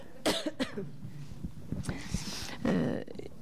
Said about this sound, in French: Vous voyez, j'ai envie de tousser.